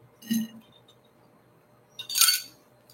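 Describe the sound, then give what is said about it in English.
A drinking glass of water clinks twice: first a soft, duller knock, then after a short pause a brighter, ringing chink that fades quickly, with nothing else in the background. “It's glass. I do not drink out of plastic, nor do I recommend you drink out of plastic.”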